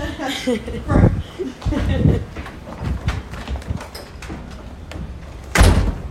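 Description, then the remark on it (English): Doors being slid and shut, with several solid thuds and rattling bumps spread across a few seconds, the loudest closing near the end, while muffled voices and a chuckle come through. “Both the doors are open and the bees are open. Wait, let's close those.”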